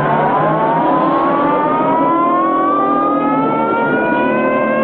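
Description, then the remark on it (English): A loud police siren wails continuously from a police car chasing a speeding motorcycle through town, its tone slowly climbing and holding, with a faint rumble of traffic beneath and no voices. “He rides up onto the sidewalk, making pedestrians scatter, and speeds back onto the street past a police car, which starts after them.”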